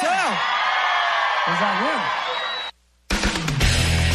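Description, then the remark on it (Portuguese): A crowd shouts and whoops loudly, with rising-and-falling yells cutting through a dense roar of voices; the noise briefly drops out, then resumes just as rowdy. “Quem gostou dá um gritão aí!”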